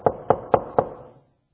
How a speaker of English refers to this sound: And the door that's being knocked on is Pilate